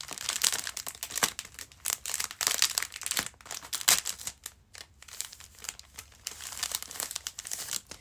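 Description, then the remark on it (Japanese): Crackly crinkling of adhesive tape as gauze is taken out and unwrapped on a bed in a bedroom, coming in irregular bursts of rustling and crackling throughout, loud, with no talking. “ちょっとうるさいかもしれないです、テープが、ごめんなさい。”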